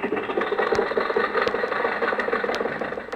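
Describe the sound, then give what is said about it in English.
An old car engine idles roughly and steadily at a traffic light, with loose metallic rattles and sharp clanks breaking through every second or so. “why don't you buy a new car? I'll tell you why, babe, because they don't make cars today like they used to”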